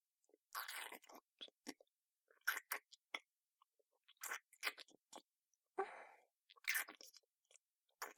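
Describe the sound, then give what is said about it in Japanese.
Wet chewing of ketchup-flavored seasoned rice in the mouth, with soft smacks and squishes, coming in irregular bursts separated by brief pauses, loud and intimate, with no talking. “味付きご飯ってすぐ飲み込んじゃうよね。あ、じゃあね、お口の中でもぐもぐしてからあげるね。”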